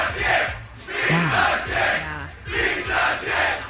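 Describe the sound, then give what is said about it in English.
A crowd shouts and roars angrily in overlapping waves of loud voices, with a few individual yells rising above the din, swelling and dipping in rough bursts throughout. “Every where the angry mob came from all of a sudden.”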